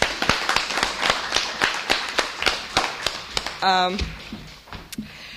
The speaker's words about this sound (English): And I want everybody to give him a round of applause.